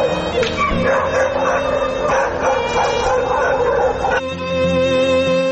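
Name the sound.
stray dogs barking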